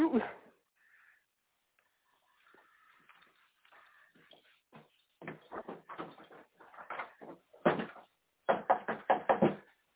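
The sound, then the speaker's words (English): Repeated loud knocking on a door comes in several quick bursts, growing heavier toward the end, with faint muffled sounds in the quieter gaps beforehand. “Fellas, who that is at the door right now?”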